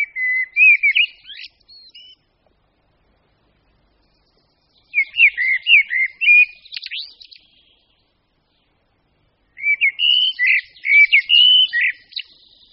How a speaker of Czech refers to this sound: Pravidelný zpěv celého sboru kosů je slyšet nejlépe z jara, brzy ráno a pak pozdě na večer. Jednotliví kosové zpívají ovšem po celý den.